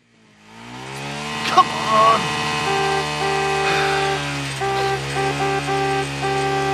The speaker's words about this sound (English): Are you deaf or something? Didn't you hear my bike? Look, I'm not going to stop what I'm doing just because of some headcase revving an engine.